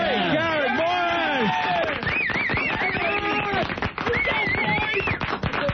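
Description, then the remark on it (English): Audience applause for comedian Garrett Morris as he leaves, swelling under loud crowd cheering, with whoops, shouts and a whistle-like rising call, dense and continuous from start to finish. “Keep clapping until he leaves.”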